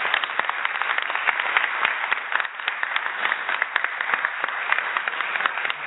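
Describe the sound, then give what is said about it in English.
A crowd applauds the center's executive director, many hands clapping in a dense, continuous patter at a fairly even loudness throughout. “He's been doing a great job, so let's please give him a round of applause.”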